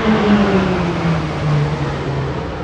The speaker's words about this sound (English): They're pretty cool, aren't they? Sick. There's nothing better than a fighter jet. That's a roulette, isn't it? It is a roulette. Yeah, the roulettes.